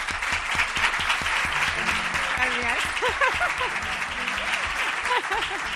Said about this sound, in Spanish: Lo hacemos con la mejor profesora de historia de España, que me gustaría que aquí en la Caja Rural le diesen un aplauso